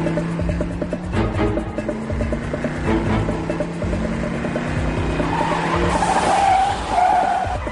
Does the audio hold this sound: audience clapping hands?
no